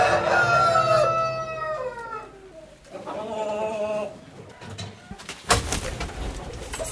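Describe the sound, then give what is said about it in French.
Two loud rooster crows ring out one after another, the first long and harmonic-rich, the second answering shortly after, followed by a burst of noisy rustling or clatter. “Oh, ici, ça vient. Tous les coqs, tu vois ça.”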